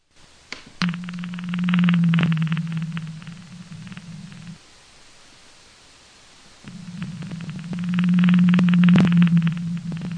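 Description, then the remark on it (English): A blue whale vocalization: two long, low droning moans, each lasting several seconds with a quiet gap between, set against a steady hiss of underwater background noise. “here's an example of what a blue whale sounds like.”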